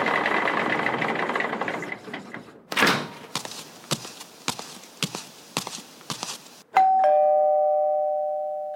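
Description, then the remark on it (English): A dense mechanical whir gives way to a string of sharp, irregular taps, then a house doorbell rings out with one clear, bright chime that sustains and slowly fades as a pest control man arrives at the door. “Who's at the door? Do we have company?”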